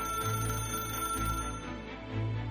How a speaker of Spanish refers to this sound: Suena el teléfono en la habitación.